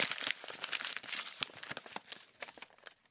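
A square of creased wrapping paper crinkles as it is unfolded, a few seconds of dense, irregular crackles and soft rustles at a quiet level, with no voices.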